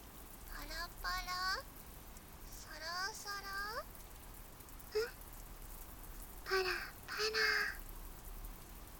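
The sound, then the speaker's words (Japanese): Steady rain patters throughout as a soft, continuous hiss in a forest, while a crow-like bird breaks in with several short bursts of harsh, nasal calls. “パラパラパラパラ、サラサラサラサラ、まるで雨が歌っているみたい。”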